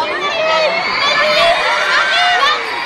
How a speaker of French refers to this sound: Et une dizaine de vigiles, ça n'est pas de trop. Car la foule est impressionnante, les fans hystériques, certaines fondent en larmes.